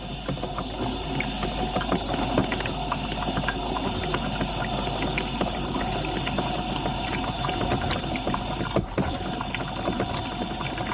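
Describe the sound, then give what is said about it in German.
A coffee machine runs steadily after descaling, its pump humming while water splashes and trickles cleanly in a continuous stream with small clicks and gurgles, with no groaning or rattling. No one speaks. “So, jetzt plätschert die Kaffeequelle wieder sauber und es ist kein Stöhnen und Röcheln mehr zu hören.”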